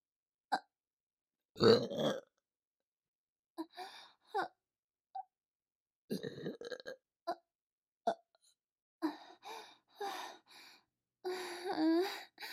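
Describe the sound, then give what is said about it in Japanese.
A loud, drawn-out belch, followed by several shorter, breathy vocal bursts and a few more rumbling burps spread over the next few seconds. “あなたの我慢汁ゲップ出させていただきますわね。”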